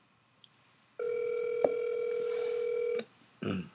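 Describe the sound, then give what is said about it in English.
The ringback tone of an outgoing phone call sounds once, a steady electronic hum lasting about two seconds with a faint click partway through, followed by a short rustle. Nobody answers or speaks. “Let's get somebody on the phone call here.”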